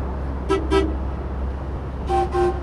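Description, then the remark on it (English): A boat horn signals to another boat to pass port to port (left to left), sounding in two quick pairs of short, tonal toots, each blast bright and harmonic, rising clearly above a steady low engine rumble, with no one speaking. “That's a signal, one long, is port to port.”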